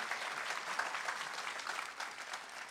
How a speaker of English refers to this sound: Join me in a round of applause for the heroes of the 50th Florida Folk Festival.